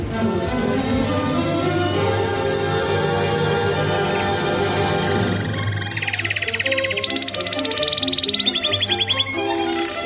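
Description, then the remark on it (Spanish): A bright, rapid bird trill sound effect bursts in partway through, fluttering high and loud over a steady musical bed, then cuts off near the end, introducing the radio segment "El trino del conciso". “El trino del conciso con Carlos Dávila.”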